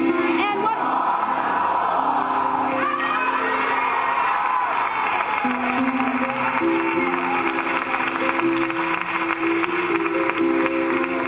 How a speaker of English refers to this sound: I want you to yell it out. He's our, let's do it together, King of Kings.